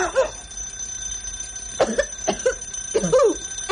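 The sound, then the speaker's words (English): A doorbell rings in a series of uneven, clanging bursts over a thin, sustained high-pitched tone, fairly loud and with no one talking. “No, no, leave the potato, Saunders, and answer the door.”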